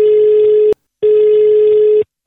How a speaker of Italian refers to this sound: Vai, telefono, vai, ciccio.